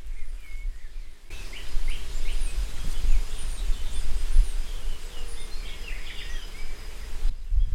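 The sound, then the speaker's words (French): A dense outdoor buzz of insects hums steadily throughout, with scattered faint bird chirps above it; no one speaks, and the scene is continuous. “Un bourdonnement après l'autre.”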